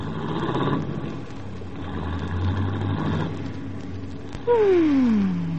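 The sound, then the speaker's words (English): A car engine rumbles steadily, then near the end its pitch swoops downward as the car carrying a newly married couple pulls away after their wedding. No voices are heard. “The guests drank champagne and lined up on the front steps and threw rice at the departing young couple as they raced for the car and escaped to a pat little honeymoon at Echo Lake.”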